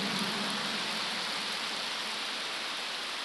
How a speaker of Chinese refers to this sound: 哎呀，好了，好像我跟你们要鼓掌一样，我没有跟你们要鼓掌，你看你们停不下来了，其实你们是锻炼。有一种锻炼叫鼓掌，因为十指连心，心开心才会鼓掌。